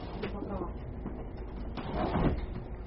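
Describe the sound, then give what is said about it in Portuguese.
A door is opened to let a dog in, with a soft clunk of the latch and a brief scraping sweep as it swings, over a muffled, low background murmur. “um momento, temos que abrir a porta para o cachorro aqui, que ele está querendo assistir a aula.”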